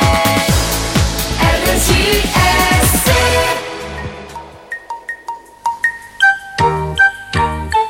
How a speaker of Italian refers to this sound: Questa musichina, vuol dire questa dolce melodia mattutina, vuol dire che dall'altra parte del telefono abbiamo il grande Luca Giurato.